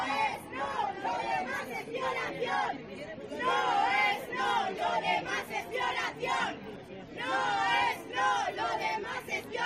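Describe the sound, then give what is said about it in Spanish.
A large 25 November protest march against sexist violence chants slogans through the main streets of Lorca under the motto "Por la Igualdad Real", loud surges of many voices rising in rhythmic bursts, with a busy murmur of chatter filling the gaps between chants. “Una manifestación contra la violencia machista recorría ayer tarde las principales calles de Lorca bajo el lema Por la Igualdad Real.”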